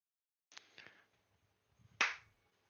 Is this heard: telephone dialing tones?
no